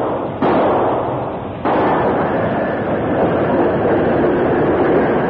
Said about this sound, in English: The big engine approached rapidly, maintaining a steady speed, until one of the wheels exploded the torpedoes.